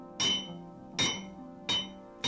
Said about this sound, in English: Listen to the sound this hammer makes when I strike it against something.